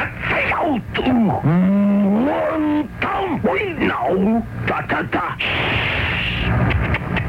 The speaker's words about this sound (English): You know high karate shouts 1 through 4, and you passed the snap quiz.